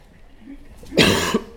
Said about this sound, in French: Alors je vous prie d'excuser par avance parce que je risque de tousser un peu beaucoup. Je sors d'une bronchite.